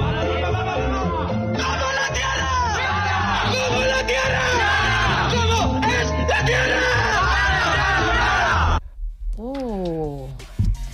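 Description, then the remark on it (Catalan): A group of voices bellows a loud, sustained shouted chant together for about nine seconds, the pre-match war cry of the Flat Earth Football Club, then breaks off into a brief pause and a few scattered whoops and yells. “I no t'ho perdis, perquè aquest era el seu crit prepartit.”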